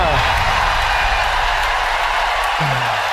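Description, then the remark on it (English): A large audience applauds and cheers continuously as San Marino is announced as qualifying from the 2014 semi-final for the grand final, a dense, loud wash of clapping with shouts and voices mixed in, sustained throughout without a break. “Wow, San Marino, hear that applause!”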